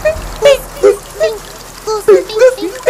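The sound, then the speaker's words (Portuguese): A voice imitates water drops falling, making about eight short, pitched plinks spaced irregularly, fairly loud against a quiet background. “Depois, uns pingos.”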